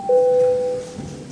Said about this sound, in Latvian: Tātad, jā, paldies, tātad lūdzu zvanu.